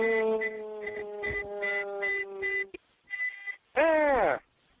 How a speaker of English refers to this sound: I hear a beeping going on your end. Yeah, that's my terminal. And let me just fix that.